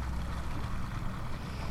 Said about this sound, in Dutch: Daar komt het Riveer. Het pontje dat me naar de overkant brengt. Ja. Je moet de rivier natuurlijk af en toe oversteken.